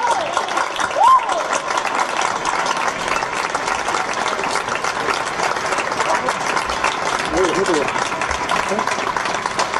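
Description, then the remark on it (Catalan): A crowd applauds the speaker giving the proclamation of this year's festa major (town festival) steadily for about ten seconds, a dense, even clatter of many hands with no pause, mixed with scattered voices and a brief whistle-like tone. “Un fort aplaudiment!”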